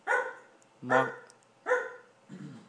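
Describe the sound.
A person imitates a dog barking, giving about four loud woofs in a steady rhythm with short pauses between them.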